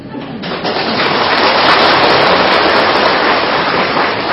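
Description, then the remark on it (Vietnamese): Steady rain falls in a dense, continuous hiss that stays loud and even throughout, with no voices and no breaks. “Bởi vì vì sự lén lút của con mà hôm nay cho dù trời mưa cha vẫn phải xách dù ra đi ngoài công viên như thế này nè.”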